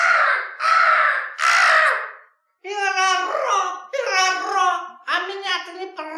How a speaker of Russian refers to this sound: И ты, ворона.